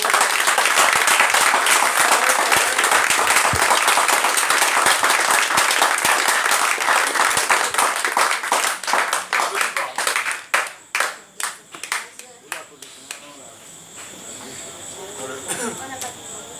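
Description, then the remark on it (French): A large crowd applauds for the Holy Spirit, bursting into loud, sustained applause that holds steady for several seconds, then thins into scattered individual claps before dying away into quieter ambience. “Applaudissez pour l'Esprit Saint.”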